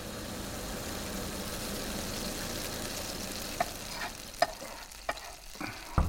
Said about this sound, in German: ich hab mir just ein paar Eier in der Pfanne haut.